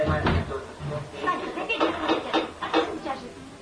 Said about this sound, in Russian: Сейчас вдруг кто-то дергает дверь.